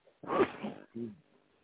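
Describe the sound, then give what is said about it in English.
A single sharp sneeze bursts out, a broad noisy blast followed by a brief voiced tail, then quiet. “Bless you.”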